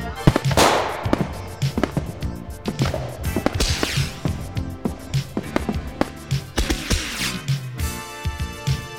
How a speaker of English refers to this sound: Oh, I shouldn't have bought the jumbo pack. So many fireworks. There's so many fireworks.